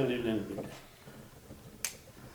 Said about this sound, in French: Là, on applaudit. Ouais. Et là, on applaudit.